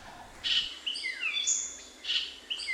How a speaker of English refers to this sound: I remember standing there in the Belize forest, the rainforest down there, just listening to what I might hear, and then this bird comes along. And it's like, oh my God, that can really be a bird and sound so musical.